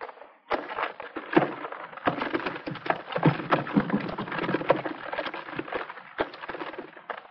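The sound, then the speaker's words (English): Firewood being loaded into a potter's cart carrying water jars: a steady run of wooden clunks, knocks and rustling scrapes for several seconds, fairly loud and continuous, with no voices. “May I put my firewood in the cart?”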